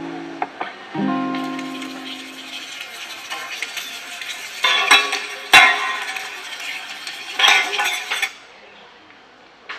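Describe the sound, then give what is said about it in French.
Cutlery and dishes clink and clatter in a busy kitchen on Tuesday 27 July, with sharp metallic chinks scattered over a steady background bustle and a few louder crashes of plates near the middle. “Nous sommes mardi 27 juillet à la cuisine.”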